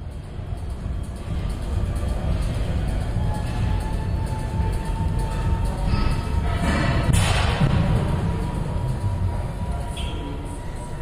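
In the weight room of the Athletic Center on Colby College's campus, a steady low mechanical hum of running treadmills fills the space, broken by occasional heavy thuds and a louder clanking crash of weights, with faint indistinct voices underneath.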